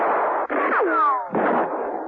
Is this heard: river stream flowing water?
no